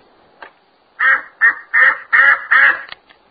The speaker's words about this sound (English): Quack went the duck chick.